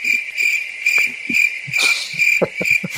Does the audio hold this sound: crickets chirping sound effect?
yes